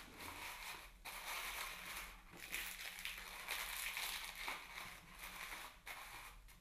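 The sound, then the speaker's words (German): Continuous crinkling and crunching as a cardboard roll, with a sweet hidden inside, is pressed and folded shut, with brief pauses between bursts of handling and no voices. “In jeder Rolle versteckt ihr etwas Süßes und verschließt sie wieder.”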